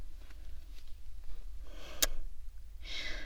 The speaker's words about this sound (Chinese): 这喘气声听得我他妈直犯恶心。怎么了？主人不爱听你喘气